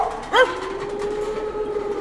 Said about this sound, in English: Did you hear that? I think it's a dog ghost.